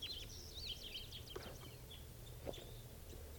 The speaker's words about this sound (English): Lovebirds. It's a male female pair. Male. Male there. This is a female, followed by the male.